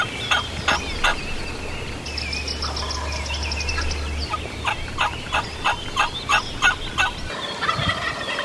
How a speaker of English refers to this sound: Two gobblers following one hen. The hen comes in like 15, 20 feet from us.